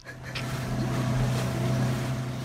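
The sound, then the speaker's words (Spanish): A narco speedboat's engine drones steadily and fairly loud at sea off La Caleta, a low humming rumble with water noise that swells slightly at the start and then holds. No voices are heard. “Date prisa, Chano, que estoy escuchando una lancha y no me extrañaría que fueran los Amaya, ¿eh?”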